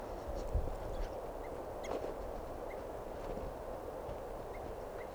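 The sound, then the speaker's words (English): A bird gives a handful of short, soft tooping calls at irregular intervals, faint against a steady rushing background noise, with no talking. “I'm walking over to where that tooping bird is.”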